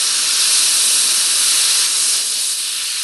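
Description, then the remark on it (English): A loud, steady hiss of steam escaping from a pressure cooker, bright and continuous for a few seconds, easing slightly toward the end, with no voices. “Finally, we heard from fans of the pressure cooker after we aired Lara Pellegrinelli's story about why that kitchen device just might make a comeback.”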